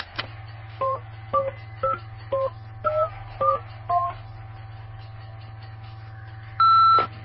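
A quick run of about eight telephone keypad dialing tones, clear, tapped in an uneven rhythm, followed by a longer steady tone, all over a low constant hum.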